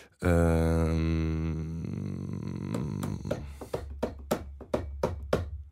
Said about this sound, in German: Können Sie, kann man so einen Takt hier klopfen oder so? 21/16?